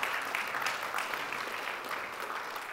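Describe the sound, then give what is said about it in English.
Steady applause from a standing audience for two missionaries: a dense, even wash of many hands clapping at once, sustained without breaks and fairly loud, with no voices standing out. “As you stand, give them a round of applause.”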